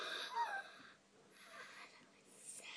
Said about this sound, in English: Oh, he's yawning!